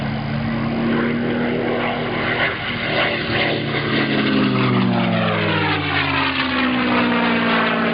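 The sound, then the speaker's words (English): A P-51 Mustang's propeller engine roars loud and steady, its deep harmonic drone bending downward in pitch midway as the plane sweeps past. No voices are heard. “Was it because it sounded the best, that the sound of that engine is just a sweeter sound than anything else?”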